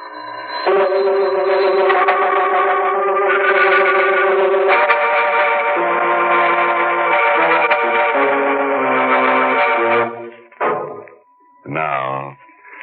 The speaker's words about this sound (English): The bell is still ringing.